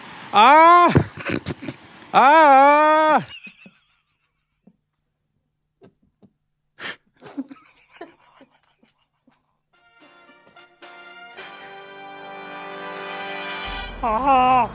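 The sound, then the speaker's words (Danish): A person imitating a goat trying to sound human gives two loud, wavering bleats, a goat-like cry shaped like a human 'ah', followed by a stretch of quiet clicks and then a rising wash of noise. “Og så har jeg sådan en bonus-en også, hvor jeg kan lyde som en ged, der prøver at lyde som et menneske.”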